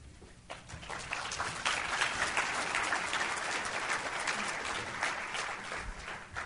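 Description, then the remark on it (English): An audience bursts into sustained applause for a speaker before a session on the basics of PKD at a PKD Foundation event, a dense wash of many hands clapping that swells within the first second and holds steady throughout, with no voices over it. “It's very nice to get applause before I start.”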